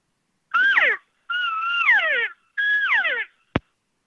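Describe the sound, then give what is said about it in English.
Three whiny elk cow mews in a row, made by a caller imitating a lost cow elk to draw a bull elk. Each is a nasal, high tone that wavers then slides downward, with brief pauses between them, followed by a single sharp click. “That's when I'll literally give them a couple cow mews, and especially like more whiny one, like you're lost, something like that.”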